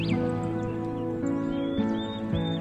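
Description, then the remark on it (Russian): A few short, high bird chirps and whistles ring out in a forest over a steady, humming tonal drone, with the calls sounding fairly soft and spaced apart. “И чем лучше вы слышите голоса птиц, тем больше покоя, тем приятнее отдых.”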